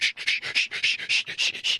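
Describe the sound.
A voice imitates a penis pump being worked furiously: about ten quick, breathy hissing strokes in an even rhythm, fairly loud, with no talking.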